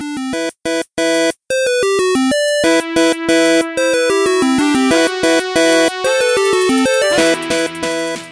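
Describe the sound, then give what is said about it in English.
A mobile phone ringtone plays loud: a bright, beeping electronic melody of quick stepped tones, cut by short gaps, swelling into a busier jangle near the end. No one talks over it. “What is that? My phone.”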